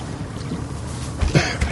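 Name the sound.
boat on the water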